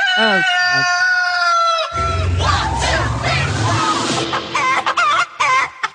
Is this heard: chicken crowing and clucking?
yes